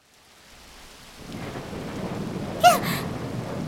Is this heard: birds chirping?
no